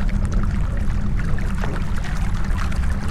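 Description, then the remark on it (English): A small stream of water flows steadily from a wall in a dark, muddy passage, a continuous low rushing wash with faint splashy hiss on top, unbroken for the whole stretch and with no voices. “There's a small stream of water coming from the wall.”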